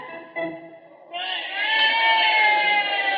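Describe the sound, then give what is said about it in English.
A crowd roars at a wrestling match, starting as a low murmur of voices, then swelling into a loud, sustained cheer that holds to the end. “Hey, gee whiz, Dippy, listen to that crowd roar.”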